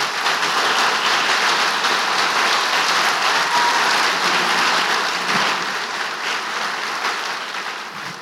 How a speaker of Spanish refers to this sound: Verdaderamente estoy animadísimo de dar la bienvenida y por qué no lo hacemos juntos dando un aplauso a Dios por la vida de mi amigo el pastor Brian Brewerson.